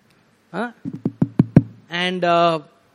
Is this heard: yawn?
no